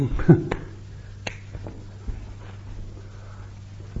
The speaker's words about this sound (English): It isn't just being clap happy in a service or whatever it is. Although I can clap.